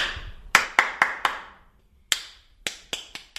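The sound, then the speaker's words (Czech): At an entrance exam, an adult claps four crisp hand claps in a quick rhythm, then after a short pause a 6-year-old boy repeats the pattern with four claps, slightly softer and a little less even. No voices. “Já něco zatleskám a ty to po mně zopakuješ, jo?”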